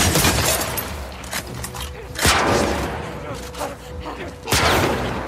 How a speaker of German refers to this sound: Abby zog die Flinte. Sie musste den Shambler vernichten, bevor er zu nah war. Mehrere gezielte Schüsse